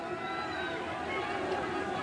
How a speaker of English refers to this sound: Cougar crowd making noise underneath us, up 28-21.